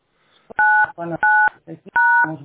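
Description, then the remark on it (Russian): Three loud, steady telephone keypad tones beep at an even pace on a phone line during a phone call, each lasting about a third of a second, with a person's voice talking in the short gaps between them. “Тикает телефон постоянно у вас.”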